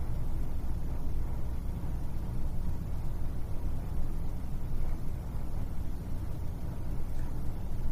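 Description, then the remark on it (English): A steady, unbroken hum of air conditioning mixed with a low rumble of traffic outside, constant in level throughout with no voices. “Direct your attention to the sound of the air conditioning and the traffic outside.”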